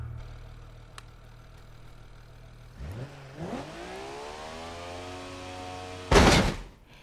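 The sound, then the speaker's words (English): A car engine idles low, then is deliberately over-revved, holding at a strained, very high pitch for several seconds before a loud, harsh burst of noise cuts in near the end. “Because I'm really, really over revving it.”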